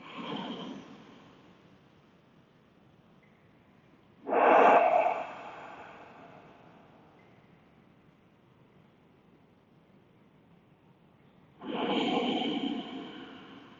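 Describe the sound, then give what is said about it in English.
Slow, deep breaths during a breathing practice, with long airy inhales and exhales separated by quiet pauses of several seconds. Three broad breath sounds rise and fade at an unhurried rhythm, with no talking. “And then begin your breath. Find your rhythm. Deep, slow breathing.”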